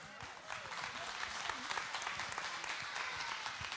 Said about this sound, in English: Let's give a round of applause for the kids.